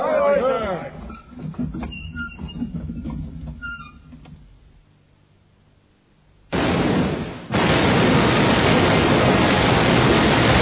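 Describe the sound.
Voices call out orders to the gun captains to run up, train and fire, then after a brief lull a ship's cannon fires with a sudden loud boom, followed by a second blast that swells into a sustained, roaring rumble.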